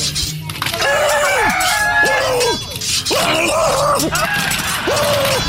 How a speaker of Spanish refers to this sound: A ver, gallos, entre ustedes tienen que pelear.